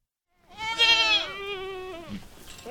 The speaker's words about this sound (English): In a field of brush just north of Auburn in the Sierra Nevada foothills, a bunch of goats are grazing under the hot afternoon sun.